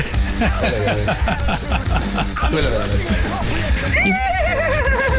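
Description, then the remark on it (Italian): At Il Sole 24 Ore, a man whose work is neighing imitates a horse's whinny, with wavering, pitch-sliding neighs rising out of a busy background of chatter and laughter, loud. “Ho portato al Sole 24 Ore uno che nitrisce.”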